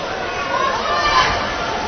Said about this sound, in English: Listen to that. That is an animated student body cheering section for Marblehead. They are loud and proud.